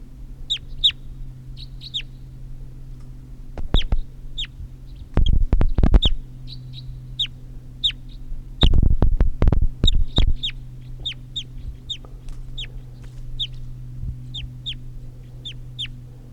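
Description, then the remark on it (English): Calls of a wild crossbill, bird number 338, recorded at about 7:20: dozens of short, sharp, high chirps repeating in loose bursts over a steady low hum, interrupted twice by loud clattering thumps. No one speaks. “Start recording at 7:20 now, and there's another wild bird here after an hour, and this is bird 338.”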